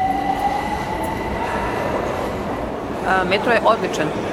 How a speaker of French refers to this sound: Tableau d'affichage, escalator, annonce haut-parleur, la station souterraine de Vukovspomenik en plein centre de Belgrade a tout d'une station de métro